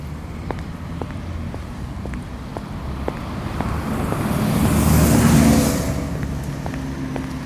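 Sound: city street traffic noise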